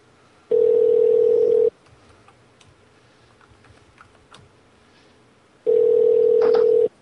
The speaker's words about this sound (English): Ring, ring, ring.